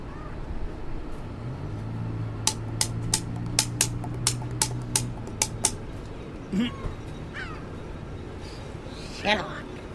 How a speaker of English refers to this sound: That's not a bus. That's a truck. that ain't no fucking bus. That ain't no godforsaken bus. Must be a delivery truck or something.